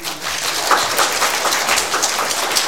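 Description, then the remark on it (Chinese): A church audience claps together to give applause to God, in steady, dense applause that holds at an even loudness for a few seconds, a crackling wash of many hands with no voices. “我哋俾掌声我哋神系嘛？”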